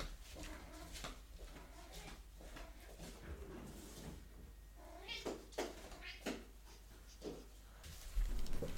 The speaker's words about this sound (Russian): и там кошка такая «Мяу».